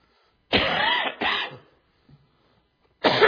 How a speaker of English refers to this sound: Hadn't coughed all morning until I got up to preach.